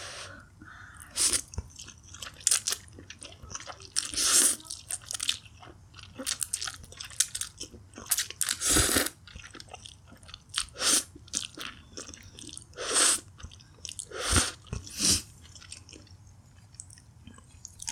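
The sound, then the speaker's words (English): Crisp, crunchy chewing repeats in irregular bursts, each bite a sharp crackle of bright noise between quieter moist munching. No one speaks, and the eating sounds fairly loud throughout. “it's not going to be for everybody, this kind of content, but if someone out there enjoys it and it makes someone feel a lot better about spending their time eating with me, then I'd say that's worth it.”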